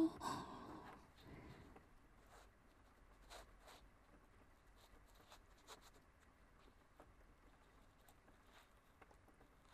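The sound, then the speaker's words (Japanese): Soft, steady rain hisses in the background, with scattered scratches and ticks over it and a breathy rustle at the very start. No one speaks. “雨の音も眠気を誘ってるのかな。”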